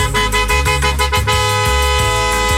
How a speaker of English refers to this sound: Almost. That honk indicates that some SOB in a BMW stole your parking space. Again, this lesson is the soft two-touch. Try once more.